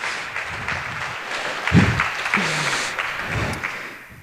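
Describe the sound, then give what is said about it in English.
A round of applause fills the whole stretch, dense steady clapping from many hands with a few scattered louder claps and a brief low vocal sound partway through, no one speaking. “I mean, given the round of applause, I assume everyone understands what just happened.”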